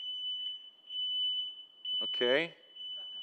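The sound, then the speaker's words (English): A high-pitched fire alarm sounds continuously, its shrill tone pulsing in repeated bursts, while a person speaks a single short word partway through. “Is that the fire alarm?”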